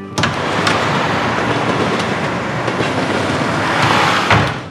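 A train rolls steadily along the rails with a loud, continuous rumble, punctuated by sharp rhythmic clacks as the wheels pass over track joints, with no talking.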